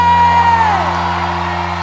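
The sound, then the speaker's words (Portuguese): A loud crowd lets out a sustained collective yell, one voice whooping high and sliding downward as the roar carries on steadily for a couple of seconds. “Cadê o gritão?”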